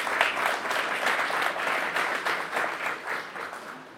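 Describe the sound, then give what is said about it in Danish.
A live audience at Biblioteket Frederiksberg, at an event celebrating the Swarm mission's 10-year anniversary, applauds in a dense, steady wash of many hands clapping, holding strong for several seconds before tapering off slightly at the end. No voices stand out. “Og det foregår altså, som man kunne høre, sammen med et spillevende publikum her på Biblioteket Frederiksberg.”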